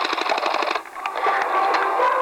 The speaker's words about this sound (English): If you want to hear something other than typing